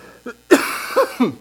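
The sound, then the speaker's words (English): A fit of whooping-cough coughing: a small hack, then one loud, harsh cough followed by two rougher, strained bursts in quick succession, with no talking. “I don't want to give anyone my cough, excuse me.”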